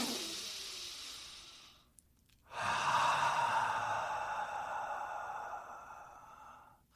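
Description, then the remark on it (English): Two slow, deep breaths, in through the nose and out through the mouth: a long airy exhale fading out, a brief pause, then a strong, sustained breath that slowly tapers, with no talking. “In through the nose and out through the mouth. I think about 2 to 3 minutes of nice, deep breathing where you're just focusing on your breath.”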